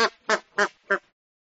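A flamingo calls four times in quick succession, loud nasal honks spaced evenly about a third of a second apart, with nothing else around them.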